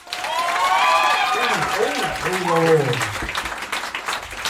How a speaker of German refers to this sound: Jetzt euer Applaus für die 100.000 Euro Frage.